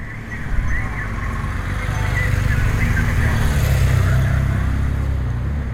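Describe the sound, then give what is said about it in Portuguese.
A steady, loud rumble of heavy trucks rolling past in a truck drivers' convoy, engines droning continuously with a faint hiss of traffic and indistinct voices mixed in; the drivers use shouts, brakes, horns and light signals to keep the column together. “A coluna estava a ser quebrada e, entre gritos, travões, buzinas e sinais de luzes, os colegas de profissão comunicavam para se manterem unidos.”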